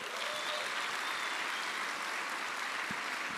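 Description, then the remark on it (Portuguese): An audience claps for the women during women's month, a dense, even wash of applause that stays loud and unbroken throughout, with no voices standing out above it. “Parabéns para as irmãs, dá uma salva de palmas a elas.”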